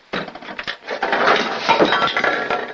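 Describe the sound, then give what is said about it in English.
A loud, continuous clatter of small glass and plastic bottles spilling out of an opened medicine cabinet, clinking against each other and hard surfaces for a few seconds, with sharp chinks over a busy rattling jumble. “His toothbrush dangles in his mouth as he screws the cap on the toothpaste, then opens up the medicine cabinet. Stuff spills out.”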